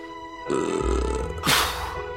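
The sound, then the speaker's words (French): A long, drawn-out burp, a rough guttural rumble that swells, then ends in a breathy, hissing burst before trailing off. “Je l'ai roté, c'est érotique.”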